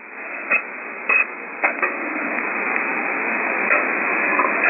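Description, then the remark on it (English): A radar sweep cuts through steady radio static as short, sharp bursts, zipping past at irregular intervals over a constant band-limited hiss. “I wanted to mention on the first go around, I'm hearing a radar sweep. It goes around zip as it goes by, and it's quite pronounced today.”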